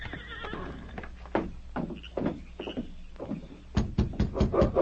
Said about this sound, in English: It was about 2 hours later when Gil Baxter, with Frank and Jay, rode up to the Baker cabin and reined to a halt. Oh, steady, fellow.